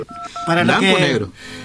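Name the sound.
touch-tone telephone dialing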